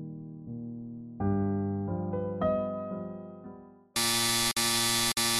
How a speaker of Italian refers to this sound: Improvvisamente la sirena d'allarme emette un suono assordante, le luci intermittenti iniziano a lampeggiare e sento che lui è qui.